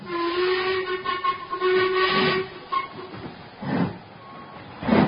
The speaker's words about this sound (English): Listen. What is it? Victoria Station. Precisely what I foresaw.